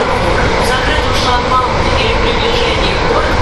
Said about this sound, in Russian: А, мы уже, мы играем на путях. Мы же в поезде на путях.